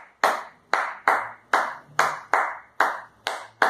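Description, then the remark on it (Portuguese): A samba de roda hand-clapping pattern: about eight crisp, sharp claps in a syncopated rhythm with uneven gaps between them, played alone with no voices. “E ele tem uma característica das palmas, que é até um pouco semelhante ao baião, né?”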